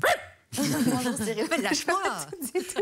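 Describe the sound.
A dog barks several times in quick succession, the sharp yaps overlapping a continuous stretch of voices that carries on throughout.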